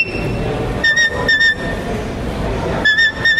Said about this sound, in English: It's a beautiful sight to see, a young border collie pup moving with such ease and grace and moving stock. And with the sound of each whistle, its owner can tell the dog each command.